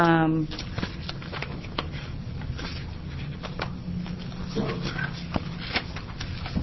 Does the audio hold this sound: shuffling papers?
yes